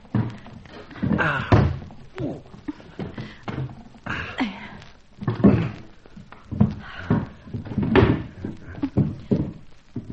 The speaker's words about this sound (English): Now, help me put these chairs against the door. Now, come on. Quietly does it.